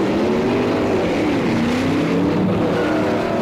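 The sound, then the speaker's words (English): A car engine revs loudly, its pitch climbing and holding steady as the car, driven by Morgan Freeman with Jessica Tandy in the back, speeds off in Driving Miss Daisy Crazy; a continuous motor roar with no voices. “Jessica Tandy, who should have been on a slab years ago, is back in the back of a car driven by Morgan Freeman.”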